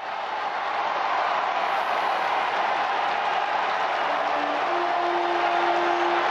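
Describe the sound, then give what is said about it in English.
A huge crowd in St. Peter's Square, Vatican, cheers in a steady, dense roar as the new Pope, Leo XIV, emerges onto the balcony of St. Peter's Basilica; the roar holds at the same loudness throughout, with a faint sustained tone rising out of the noise near the end. “And the crowds underneath, throngs of people now with St.”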